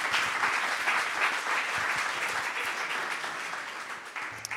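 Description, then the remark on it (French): An audience applauds a man called up to give a testimony, a dense wash of many hands clapping at a steady level for several seconds, tapering slightly toward the end. “On peut aussi l'applaudir.”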